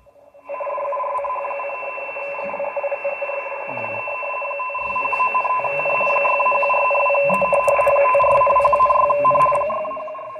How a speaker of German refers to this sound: Das ist also jetzt der Deutsche Wetterdienst in Pinneberg auf 10.000 Kilohertz, auf 10 Megahertz etwa. Die senden von dort, das ist ein Funkfernschreibsignal, wenn man da jetzt mal reinzoomt.